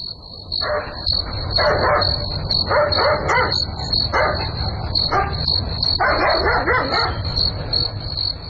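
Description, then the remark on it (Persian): A dog barks in repeated short bursts, some doubled or in quick clusters, over a constant high chirring of crickets and a low steady rumble of night ambience. “معلوم نمیشه، نمیفهم که سگ چرا میجفه، حتما کرام گپ خو است.”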